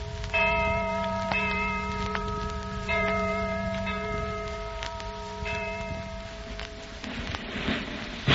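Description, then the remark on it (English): The Liberty Bell in Philadelphia tolls in slow, steady strokes roughly once a second, its long ringing tones overlapping, heard from a distance over a constant rain-like hiss, rung as people celebrate the signing of the Declaration of Independence. No one speaks. “What is that distant bell? That, my friend, is the Liberty Bell.”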